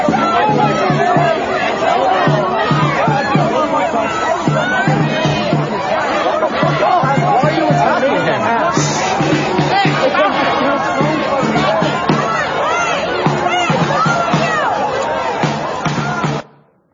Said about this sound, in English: All the Marxists and communists screaming and cussing at them, calling them Nazis, throwing garbage at them, rocks, water bottles, spraying them with water and God knows what else.